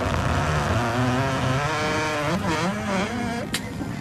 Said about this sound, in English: I was going to say plastic on plastic. Yeah. Okay. Yeah. I would have guessed a cooler. That accounts for the giggle. An old cooler opening.